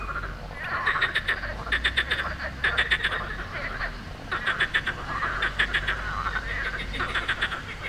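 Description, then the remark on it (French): A morning chorus of frogs on the river Bévéra in Sospel croaks in rapid, rattling bursts, several calls repeating in close rhythm over a steady outdoor background of flowing river water. No voices. “Ce qu'on entend, ce sont les grenouilles de Sospel, the morning chorus of frogs chirping on the river Bévéra.”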